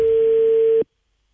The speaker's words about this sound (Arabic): تليفون يرن